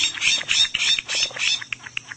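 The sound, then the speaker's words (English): Harsh, raspy Florida scrub jay calls come in a rapid run of scratchy bursts, then break into shorter clipped notes toward the end. They are fairly loud, with no voices. “Florida scrub jays, beautiful, curious, and easily approached, are Florida's only truly native bird.”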